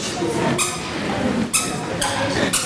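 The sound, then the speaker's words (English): Shoes squeak sharply on stairs as people go up on Easter morning, about four high, whiny squeaks in an uneven rhythm, with a low murmur of voices and shuffling underneath. “We got squeaky shoes on the way up.”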